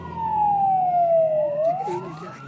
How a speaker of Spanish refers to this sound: Nos pasa una camioneta con luces y sirenas.